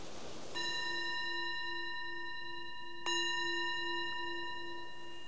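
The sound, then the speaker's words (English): A meditation bell is struck twice, about two and a half seconds apart; each strike gives a clear, bright tone with ringing overtones that sustains and slowly fades, with no voices. “So the bell is the invitation to bring the awareness back more to the surface and reflect on what we've observed during that little exploration.”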